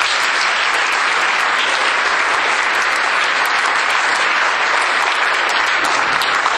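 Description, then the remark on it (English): Sustained applause from an audience welcoming speaker Kolela Kwanku before his talk, a dense steady wash of many hands clapping at a loud, even level throughout, with no voices standing out. “Please welcome Kolela Kwanku.”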